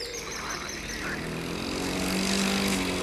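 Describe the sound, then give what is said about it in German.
A lawn mower running as someone mows their lawn: a steady motor drone with a low, buzzing hum that holds on without a break and grows slightly louder toward the end. No one speaks. “Ich mähe jetzt meinen Rasen.”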